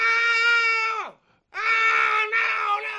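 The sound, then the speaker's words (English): Loud wailing screams in two long bursts, the first trailing off into a falling sob before a brief gap, then another sustained anguished cry that wavers near the end. “That's Howard every night screaming when he goes home at the end of the show and finishes belittling the staff and not interacting with them personally and talking down to everybody.”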